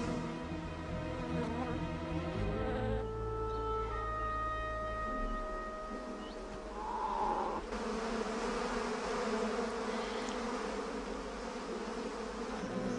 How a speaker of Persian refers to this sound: حمله زنبورها برای این بچه خرس سنگین بود.